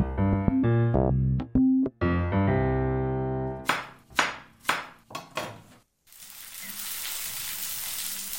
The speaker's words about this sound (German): Essen, das in der Pfanne brutzelt